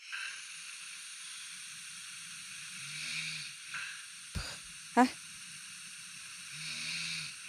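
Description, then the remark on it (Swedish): A person's own snoring recorded during the night: two low, rasping snores a few seconds apart over a steady background hiss, with a couple of sharp clicks in between and no talking. “För att, men då hörde jag i natt hur jag snarkar.”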